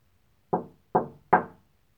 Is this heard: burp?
no